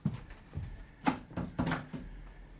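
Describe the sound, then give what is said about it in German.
A door is handled and shut as someone leaves to wait outside: a short cluster of wooden clunks and a latch click, with no one speaking. “Und Sie warten vielleicht vor der Tür, ja?”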